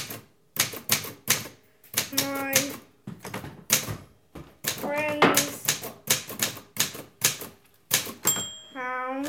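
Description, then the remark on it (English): Loud clacking of an Olympia Monica Deluxe manual typewriter as a ten-year-old boy in Walthamstow, London, types stories, keys striking in quick irregular bursts with short pauses, a carriage return bell ringing near the end. “He loves to bash out stories on his family's recently bought Olympia Monica Deluxe.”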